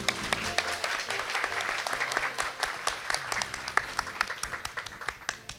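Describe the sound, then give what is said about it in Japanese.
Sustained applause from an audience at a Kenko Mayonnaise investor relations seminar, welcoming the company's president; many hands clapping in a dense, steady patter at moderate volume with no one speaking over it. “皆様どうぞ大きな拍手でお迎えください。”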